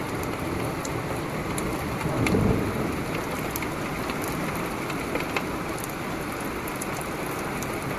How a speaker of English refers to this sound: I heard a thunder sound like a large metal friggin' piece of tin or something. Thunder from severe storms can sound really odd at times.